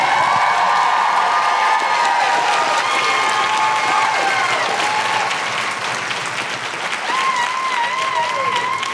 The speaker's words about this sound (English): And keep that applause going, only build it to end the show.